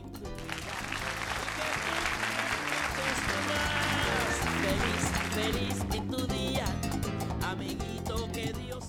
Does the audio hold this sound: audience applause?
yes